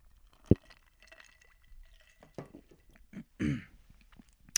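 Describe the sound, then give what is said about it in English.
Someone sips a drink from a glass: a sharp clink, faint handling noises, then a louder slurping swallow and a final small tap. No one speaks. “I'll take a sip of my beverage here.”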